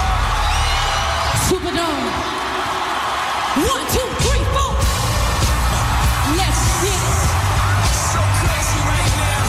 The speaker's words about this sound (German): so ein paar 10'000 Leute, ein bisschen kreischen und dann zählt … ein